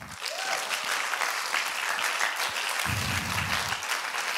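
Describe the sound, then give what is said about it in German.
Sustained audience applause welcoming a young interview guest, a dense crackle of many hands clapping at a steady loud level for several seconds, with a brief low rumble partway through and no talking over it. “Geben wir doch einen grossen Applaus für den Matanja.”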